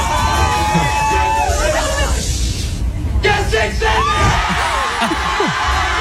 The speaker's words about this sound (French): C'est le serveur lui-même, enfin le cuisinier là, qui le gueule dans le micro et tout le monde se met à hurler, à sauter. Alors c'est rigolo, hein, c'est plutôt bon enfant, je dois dire.